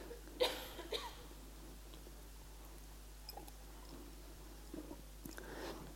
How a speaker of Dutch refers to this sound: Ik moet even een slokje water drinken, sorry.